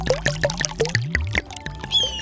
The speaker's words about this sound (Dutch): Hier, gebruik mijn slakkenhuis als emmer, zodat we het water in zijn snavel kunnen gieten.